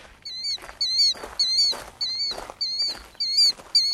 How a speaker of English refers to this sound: Uh-oh. We must have walked into a nesting territory. That's the loud and strident call of a sentinel bird, in this case, a killdeer. There it is, flying around and over our heads.